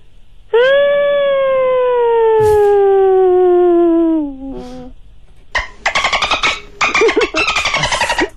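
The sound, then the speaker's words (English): A person tries a forceful whale imitation: one long, loud, wavering moan that slowly slides down in pitch for about four seconds, followed by a burst of choppy, broken vocal sounds. “All right, I'm going to try and do a forceful whale sound.”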